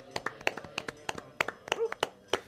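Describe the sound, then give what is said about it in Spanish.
Light, scattered hand clapping from a small group, a dozen or so soft, uneven claps over a couple of seconds, quiet rather than a full burst of applause. “Quisiera pedir un discretísimo aplauso”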